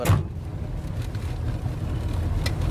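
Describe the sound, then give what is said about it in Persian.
A car's engine rumbles low and steady as the vehicle drives along a dirt road and pulls up at Mr. Davoudi's large greenhouse, with a faint breathy wash of wind over the top and no voices. “ماشین به گلخونه بزرگ آقای داوودی میرسه.”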